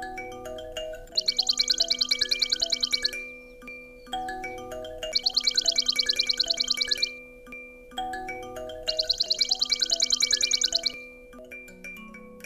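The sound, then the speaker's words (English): A swamp sparrow sings three times, each song a bright, steady trill of rapid repeated notes lasting about two seconds, with short pauses between songs over a faint, humming background. “Swamp sparrow.”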